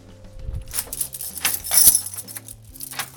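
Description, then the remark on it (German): Keys jingle and clink while a door is locked, with a few sharp metallic clicks and rattles spread over about three seconds. No voices. “Und so eine Türe, die zugesperrt wird.”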